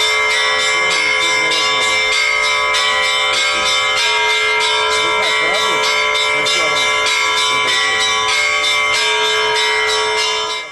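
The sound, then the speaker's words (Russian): Bells ring loudly and continuously, filling a school courtyard to announce the arrival of an important guest, their overlapping metallic tones blending into a sustained, shimmering peal that fills the whole stretch without pause and fades slightly at the very end. “Объявили о встрече важного особого гостя, и звон колоколов наполнил двор.”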